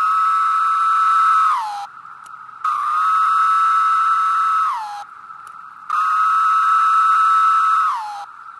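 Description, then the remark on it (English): A chorus of male periodical cicadas of Brood 13, emerged around Chicago and over much of Illinois, tens of thousands per acre, gives three long, steady, high buzzing drones, each about two seconds and sliding down in pitch at the end, separated by brief lulls. No one speaks. “And the chorus of all of these males, number one, sounds otherworldly.”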